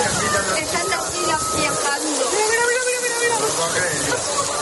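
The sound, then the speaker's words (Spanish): A dense, steady roar of heavy rain and rushing water fills the whole clip without a break, with faint voices murmuring underneath. A Saturday cloudburst floods the streets, where umbrellas and terrace furniture stand in small rivers of water. “Sombrillas y terrazas por las calles, cubiertas en pequeños ríos debido a la tromba que cayó especialmente el sábado, sonido de un vídeo que puedes ver en nuestras redes sociales.”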